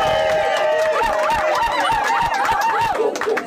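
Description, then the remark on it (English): The audience at the third annual Salty Dog Bird Call Contest applauds steadily with dense, continuous clapping before the competition begins, while shrill whistles and cheers warble over the top, loud throughout. “A big round of applause!”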